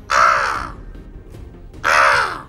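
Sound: crow cawing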